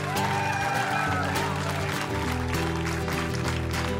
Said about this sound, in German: Also jetzt mal Applaus für die Leute an der Technik. An das ganze technische Team des NDR, die es möglich gemacht haben.